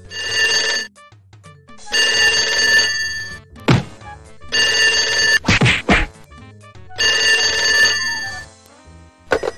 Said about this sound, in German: und dann klingelt das Telefon